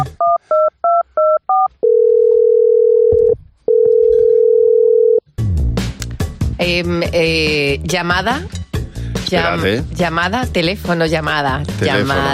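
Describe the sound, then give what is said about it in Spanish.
A quick run of about six touch-tone keypad beeps, followed by two long steady ringing tones on the line, then a person starts talking. “Llamada. Tendría que comer un poquito más de tono.”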